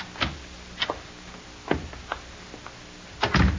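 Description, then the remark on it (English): A door being opened and shut: a string of sharp latch clicks and knocks spread over a few seconds, closing with a heavier clustered thud, with no one speaking. “We go out this door here.”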